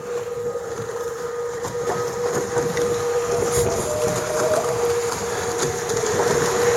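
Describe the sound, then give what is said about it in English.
A foiling sailboat bears away and heels as the breeze builds: a steady rush of water and wind along the hull with a sustained humming whine, growing slightly louder as it picks up speed. No voices. “little more breeze coming on now. Boat starts to bear away and heel.”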